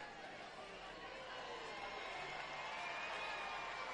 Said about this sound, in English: Still got a very full and energetic crowd.